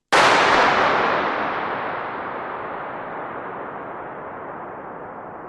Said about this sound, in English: It's kind of the size of a cathedral, and it's just built out of this vast concrete arch. And, we fired a starting pistol in there, exactly the same one you just heard in the anechoic chamber, to measure the acoustic. Okay, let's hear that one.